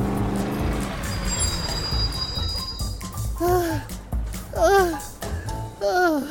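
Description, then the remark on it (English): A stick-shift truck roars along at speed with the gas floored, its engine rumbling loudly with a high whining squeal, then fades under a few short, swooping vocal cries near the end. “I don't think that's the correct car for me.”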